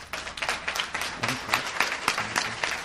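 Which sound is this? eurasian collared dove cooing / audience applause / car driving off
audience applause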